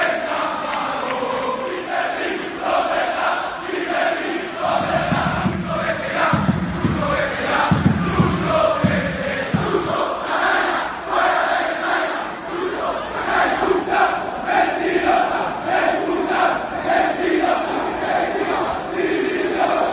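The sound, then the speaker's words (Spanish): A large crowd of Valencia football fans chants in unison before, during and after a match, demanding Peter Lim's departure and shouting against García Pitar and the players. The chanting is loud and sustained, with rhythmic surges of shouting and a dense roar of many voices throughout. “Antes, durante y después del partido, la afición ha pedido la marcha de Peter Lim.”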